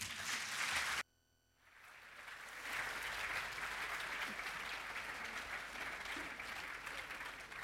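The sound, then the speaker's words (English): An audience at a festival claps in a dense, steady wash of applause that briefly drops out near the start, then swells back and holds loud and even until the end. “A big round of applause.”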